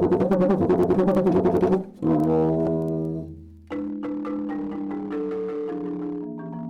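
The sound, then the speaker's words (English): A friction drum with a stick fastened to its head is played by rubbing the stick with a wet rag. It gives loud, rough groaning tones that some call the lion's roar: quick pulsing strokes first, then long roaring notes that slide downward and settle into steady, buzzy pitches, with no talk. “it is a drum, but it has a stick fastened to the drum head. So what we do We use a wet rag. We rub the stick.”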